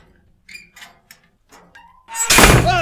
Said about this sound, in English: All right. Hands against the far wall. I'm opening the door.